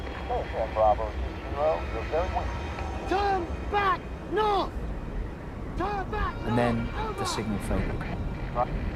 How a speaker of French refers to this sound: À travers le sifflement du vent, Andy distingue le vrombissement des moteurs d'un avion allié au-dessus d'eux.